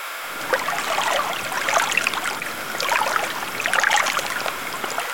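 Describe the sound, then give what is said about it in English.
River water laps and slaps irregularly against a stone embankment in Prague on a hot, overcast day, a steady splashing and gurgling that swells and eases over a few seconds, with no voices present. “I find a patch of shade under a linden tree and just stand there for a moment, listening to the water slap against the stone.”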